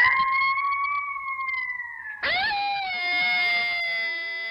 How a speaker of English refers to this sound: A pack of coyotes howled and I recorded them.